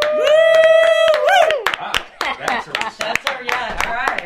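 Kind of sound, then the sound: crowd, applause in studio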